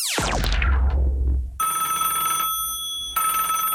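A telephone rings in two steady electronic bursts separated by a brief pause, preceded by a loud descending swoosh-like sweep. No one speaks.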